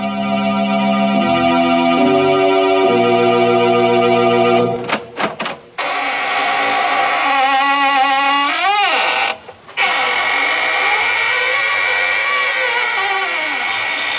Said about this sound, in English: This is your host, opening the squeaking door for another session of the AGGMS, the Association of Ghouls, Ghosts, and Midnight Spirits.